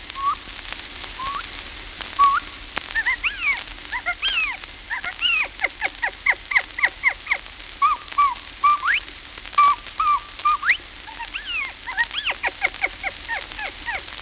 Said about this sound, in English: Among the numerous calls of the quail, the California mountain quail is distinctive and readily recognized.